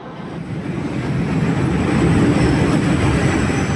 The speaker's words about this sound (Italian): Treno per Linate Aeroporto al binario 1. Train to Linate Aeroporto at platform 1.